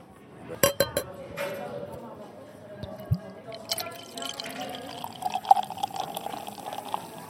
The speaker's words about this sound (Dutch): zo'n biertje inschenken. Want je hebt mooi twee vingers schuim.